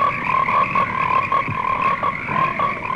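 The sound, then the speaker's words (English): A dense chorus of frogs croaking steadily, many overlapping calls forming a continuous pulsing drone with rhythmic peaks, fairly loud, with no voices. “frogs lay hundreds of millions of eggs every year. What would happen if they all hatched?”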